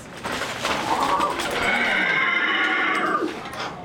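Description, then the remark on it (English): A single drawn-out whinny from a life-sized, lifelike horse puppet made by Handspring Puppet Company of South Africa, in an arts center lobby, loud, with a rising then wavering pitch that trails off after about three seconds, heard alone against faint room noise. “That's Joey, a horse, and the star of War Horse, a Tony Award-winning play based on a children's novel.”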